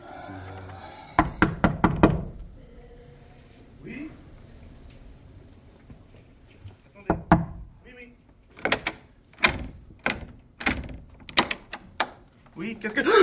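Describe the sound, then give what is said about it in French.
Sharp knocks on a door: a quick burst of four or five, a pause with faint voices, then a steadier run of loud raps about twice a second. “Mais frappe à la porte.”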